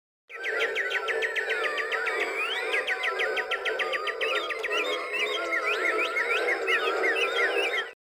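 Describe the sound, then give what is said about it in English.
A dense chorus of birds chirping and trilling, many overlapping calls running steadily throughout at a fairly loud level, with no voices present, heard as a track on a music album. “One thing I really liked about it that was pretty random is, do you know why that ostrich and chirping song was in there, or just to break up the album?”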